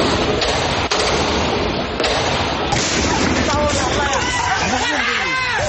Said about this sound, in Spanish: además de que lanzan artefactos en llamas contra el ESMAD, por lo que el ejército ha hecho disparos al aire para intentar controlar la situación, pero los ánimos más se han caldeado.